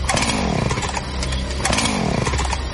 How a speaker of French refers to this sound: Regarde dehors, il y a un monsieur bizarre avec une scie mécanique et un masque.